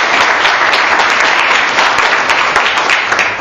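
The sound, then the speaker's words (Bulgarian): An audience applauds for ninth-place finisher Darina Pashova, a competitor of the Eurosport sports club, with a steady, dense, loud wash of many hands clapping at once that holds an even level for several seconds without letting up. “Аплодисменти за Дарина.”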